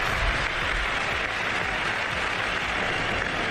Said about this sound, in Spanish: Aplausos mayoritarios del público del Villarreal, que efectivamente tiene buen gusto para el fútbol y le reconoce a Lamine Yamal partidazo que ha hecho aquí en el Estadio de la Cerámica.